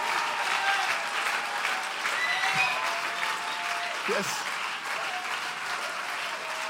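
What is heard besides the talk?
audience applause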